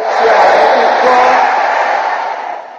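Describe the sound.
A church audience shouts 'amen' together in a loud, sustained roar of many voices, holding steady for a few seconds before tapering off at the end.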